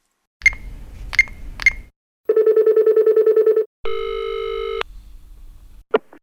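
Telephone sounds before a call: three quick keypad beeps over low rumble, then a pulsing ringback tone, a steady dial tone, and a final short click, all clear.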